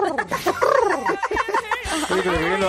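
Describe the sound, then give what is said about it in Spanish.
A person's voice imitates a turkey gobbling, a loud, warbling burst of rapid throaty trills that runs for a few seconds with no other talk. “Entra un pavo en una farmacia y dice, ¿qué va a decir si es un pavo?”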